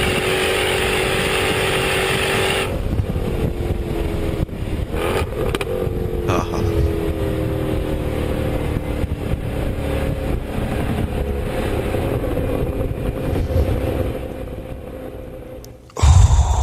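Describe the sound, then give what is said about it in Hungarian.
A 2012 Mustang V8 with an automatic transmission revs loudly and steadily, its deep rumble rising through drawn-out gear changes, then dropping off abruptly before a brief burst of noise at the end. “Egy igazi lustán forgó paraszt V8 automata váltóval.”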